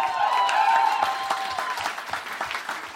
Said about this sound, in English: Some claps there, haven't seen it, I know that.